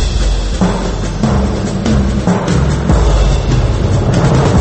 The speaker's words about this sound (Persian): توجه علامتی که همه کنی میشنوید اعلام خطر یا وضعیت قرمز است.